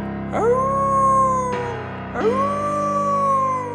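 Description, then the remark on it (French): Two long wolf howls, each sliding up quickly and then holding a steady, mournful tone, the second following right after the first. Loud and clear, with no talking. “Elle a pensé au loup.”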